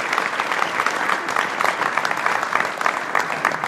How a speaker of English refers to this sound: I can't actually see my administrator, Katie, in the room, but I'd love us to applaud her anyway